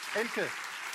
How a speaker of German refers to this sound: Das Publikum applaudiert. Vielen Dank.